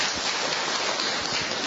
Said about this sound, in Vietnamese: Để chúng ta sang thăm người bạn kế tiếp bên cạnh của chúng ta, cho một tràng pháo tay để chúng ta chào mừng người bạn này.